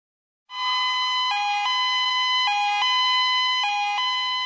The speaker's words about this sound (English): An ambulance arrived to take Ricky to hospital.